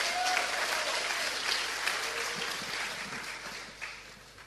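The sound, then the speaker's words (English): An audience applauds the speaker's interpreter steadily: a dense, even patter of many hands clapping that holds for several seconds before gradually thinning and softening toward the end. “You must give an applause to my wonderful interpreter.”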